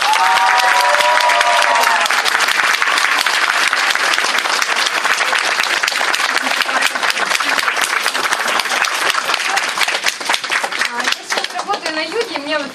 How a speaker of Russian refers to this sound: И сейчас можно свистеть, можно, не знаю, там хрустеть, можно топать и так далее. А бурные аплодисменты, встречаем дистрибьютора в статусе 8 звезд.